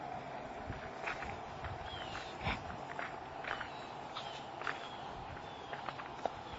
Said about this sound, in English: We're walking pretty slow right now because I have a cane, and I'm trying to talk on this review, so we're not going totally fast.